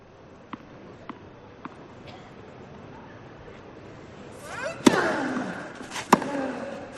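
A tennis ball bounces four times in a steady rhythm, then sharp racket strikes crack out amid a brief swell of crowd noise, ending with one last loud hit, during a point between Rafael Nadal and Stefano Travaglia, heard from courtside beside the umpire's chair.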